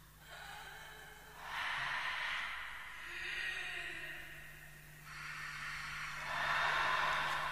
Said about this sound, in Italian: Dall'alto e tutto intorno a lui erano udibili impressionanti sussurri e sospiri di creature palesemente non terrene.